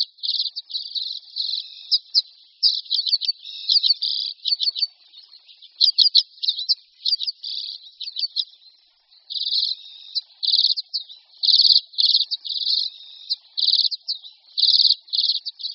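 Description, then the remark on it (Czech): A common redpoll, one of the smallest finches, sings and calls: rapid dry trills and chattering twitters repeated steadily for the whole stretch, fairly loud, with no voices. “Čečetka zimní patří k našim nejmenším pěnkavovitým ptáčkům.”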